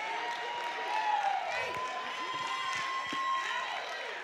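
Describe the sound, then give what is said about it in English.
An audience cheers and applauds in a steady, dense wash of claps and overlapping shouts and whoops, moderately loud and sustained throughout without a break. “Right, this is a wild crowd today, too.”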